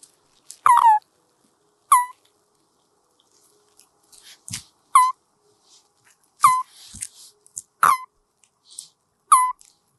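Common toad calls: a series of about six short, squeaky, high-pitched chirps at irregular intervals, each followed by faint clicks and soft rustling, with no voices.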